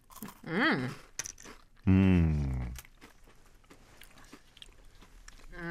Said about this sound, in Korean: 확실히 과자 먹는 느낌이 있어요. 아 맞아요. 이 바삭한 과자 식감을 안 좋아하시면 안 좋아하실 것 같은데. 저는 개인적으로 호입니다.